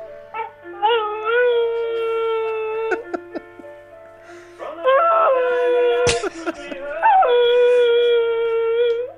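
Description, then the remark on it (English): A dog howls loudly in long, wavering notes that swoop upward at the start, repeated over three drawn-out phrases, with a few sharp knocks in the pauses, played from a video turned up loud. “He's a hell of a dog.”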